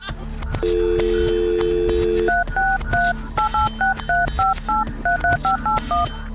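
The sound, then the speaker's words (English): A steady phone dial tone hums for a couple of seconds, then a quick run of touch-tone beeps punches out a number, one short tone after another over a thumping background beat, as someone phones their mom. “Pick up, mom, pick up.”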